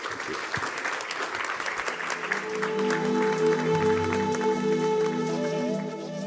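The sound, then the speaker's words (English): Sustained audience applause for panelists after a discussion on mobility, a dense crackle of many hands clapping, while a steady musical tone rises underneath in the second half as the clapping continues. “A huge round of applause for our panelists.”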